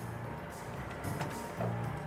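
garbage truck engine idling

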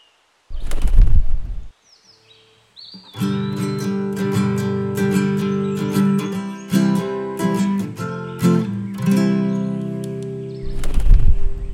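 small bird calling

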